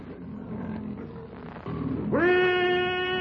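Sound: lion roaring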